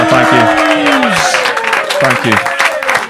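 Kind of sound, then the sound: crowd, audience applause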